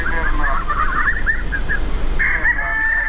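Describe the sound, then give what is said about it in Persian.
Chickens cluck in a busy run of short, bright calls, followed by a longer, drawn-out squawk near the end, over a steady low background hum. No one speaks. “شاید تخم مرغ هدف اصلی نباشد، اما مرغ ها به حیث حیوانات خانگی نگهداری می شوند، حتی به جای سگ یا پشک هم که باشد.”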